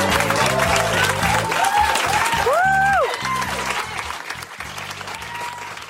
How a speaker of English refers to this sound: That was some of the most enthusiastic applause of the night.